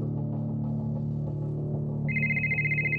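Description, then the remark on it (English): A mobile phone starts ringing about two seconds in, a loud warbling electronic ringtone over a steady low hum that drones throughout, with no voices present. “They had given me a special mobile phone that I realized later on they were locating me, you know, some with a kind of GPS system.”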